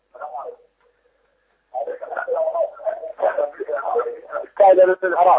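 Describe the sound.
A television plays in the background of a phone line, its muffled, thin-sounding voices running almost continuously after a brief pause, fairly loud and crowding the call.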